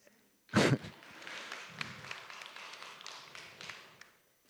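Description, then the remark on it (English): An audience breaks into applause with a sudden loud burst, then keeps up a steady wash of many overlapping claps for several seconds before it tapers off. “Hopefully we're clapping for the concept, right?”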